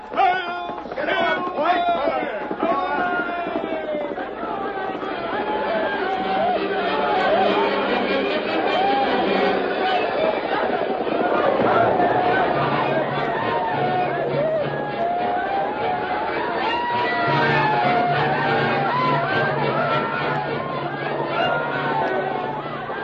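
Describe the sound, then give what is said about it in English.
A war party charging toward a fort shouts the battle cry of Geronimo, many voices whooping and yelling over one another in a loud, continuous clamor of wavering high cries that never lets up. “There they come. They can't hear you above their shouts, Geronimo.”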